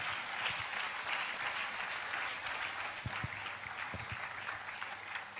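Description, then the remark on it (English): A crowd claps steadily for several seconds, a dense wash of many hands with no break or pause, with a few sharper claps standing out near the middle. “clap for her”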